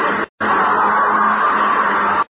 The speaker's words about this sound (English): It was a week later that I was awakened suddenly by the fierce yelping of the great watchdog on the campus, followed by a sound from a wholly different throat, a scream.